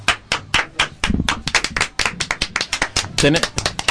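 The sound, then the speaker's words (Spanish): An audience applauds with dense, rapid hand claps, loud and continuous with uneven rhythm, while a voice briefly shouts over the clapping. “Un fuerte aplauso.”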